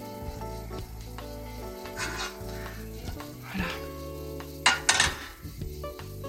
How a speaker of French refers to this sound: Ça y est, c'est à ébullition, je vais mettre mes citrons, mes rondelles de citron, dans mon eau et mon sucre, mon petit sirop léger.